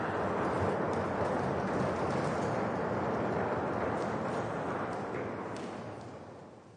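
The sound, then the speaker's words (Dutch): An audience knocking on the wooden edges of the pews in front of them, a dense, continuous patter of many small overlapping taps with no clear beat, holding steady before tapering off at the end. “Klop even op dat randje voor je, dat we even dat geluid horen.”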